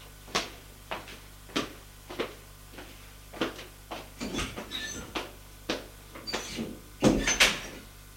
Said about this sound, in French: On frappe à la porte. Entrez. Entre la bonne.